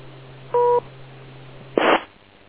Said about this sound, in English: Wait to the beep.